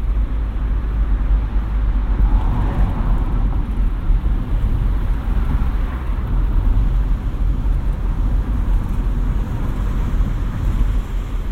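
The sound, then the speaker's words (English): An MG sports car with a Rover 1.8 K-series engine drives along a road through the village of Huntington towards Clent and Walton Hill, its engine and tyre rumble steady and loud throughout, with wind buffeting mixed in and no voices. “It's pure about driving the MG today.”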